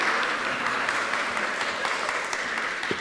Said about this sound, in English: Yes, we give them a round of applause